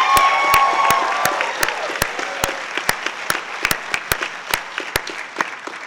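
A graduation audience at Johnson applauds its faculty steadily, dense overlapping claps with a few sharper individual claps standing out, some faint whistling tones early on, gradually thinning and fading over several seconds.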